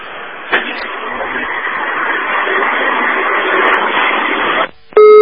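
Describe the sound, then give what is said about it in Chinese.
Steady telephone line hiss with no voices runs for several seconds, drops briefly, then a loud, harsh busy tone cuts in right at the end as the call goes dead. “哎呀，哎呀，这个真是电话断掉了。”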